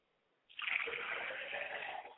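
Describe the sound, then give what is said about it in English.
Liquid is poured toward the north in a steady, splashing stream that starts abruptly after a brief quiet and runs on for well over a second, fairly loud, with no one talking. “Now we pour to the north going down.”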